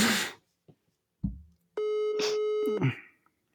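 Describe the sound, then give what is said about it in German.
A phone call goes unanswered: one steady electronic ringback tone lasting about a second, preceded by a burst of rustling and a low thump, then a short scrape as it ends. “Joko geht schon mal nicht ans Telefon.”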